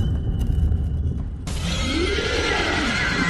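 A low rumble gives way to a sudden harsh, gritty grinding scrape of stone dragging across stone at a tomb, loud, continuing steadily with a rising and falling creak. No voices.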